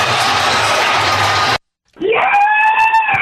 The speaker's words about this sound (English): Scream, audible scream from my home. I love it. Let's go! Audible scream.